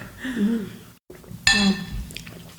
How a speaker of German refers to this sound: So, dann stoßen wir jetzt mal nochmal schnell bitte an. Mit einem dünnen Weißwein. Mhm. Sommerwein.